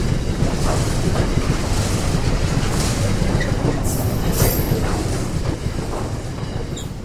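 A freight train rolls past on its rails, a loud, continuous rumble with a steady clatter of wheels over the track that holds throughout and eases off only slightly near the end.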